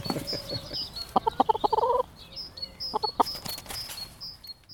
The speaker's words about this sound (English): You do get some cracking good eggs from allotment chickens.